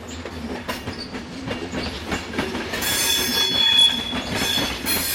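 Trains rumble past nearby with a steady low roar, rhythmic wheel clatter and a high metallic squeal of wheels on rails that swells toward the end. No one speaks.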